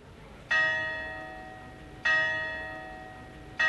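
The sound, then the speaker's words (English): A church clock bell in Bad Kissingen chimes at a slow, steady pace, three rich metallic strikes about one and a half seconds apart, each ringing out and fading over a quiet background. “The chimes of the church clock mark the end of my time in Bad Kissingen.”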